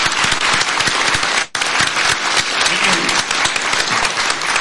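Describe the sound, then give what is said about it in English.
A crowd bursts into sustained applause for an election candidate who has just spoken, dense overlapping claps forming a loud, steady roar that breaks off for an instant before carrying on at full strength. “All right, how about we get a round of applause for our candidate speaking today?”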